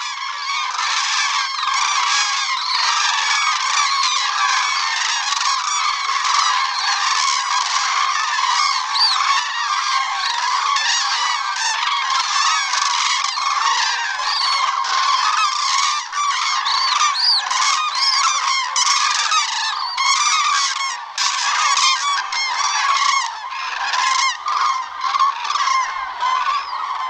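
A common crane flock calls in a dense, continuous, loud clamor, with occasional thin, high juvenile whistles rising above the adults' overlapping bugling throughout.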